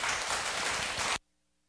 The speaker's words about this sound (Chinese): 所以我们现在就正式请圆悟法师为我们开示，大家鼓掌欢迎。